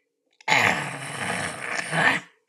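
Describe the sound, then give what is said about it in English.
A person imitates the growl of Toto, a small dog in Ozma of Oz, with a single sustained, raspy vocal rumble lasting about two seconds. It is steady and moderately loud, swelling slightly at the end before cutting off. “"It isn't as loud or as deep as the growl of the big lavender bear, but it is a very respectable growl for a small dog.”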